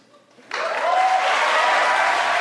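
crowd applauding and cheering

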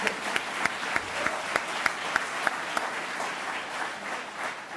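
round of applause

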